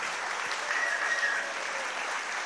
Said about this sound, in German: Und sollen wir noch Danke sagen allen, die heute mitgeholfen haben? Oh, das ist eine super Idee. Ein riesen donnernden Applaus für alle.